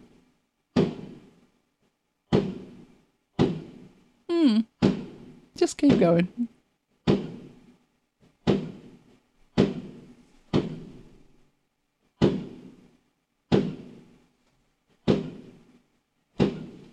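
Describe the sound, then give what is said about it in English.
Firework rockets bursting outside in a steady series of loud, sharp booms, about a dozen over the span, each with a short rumbling tail, some landing on the roof; a voice speaks briefly among them. “Fireworks over here.”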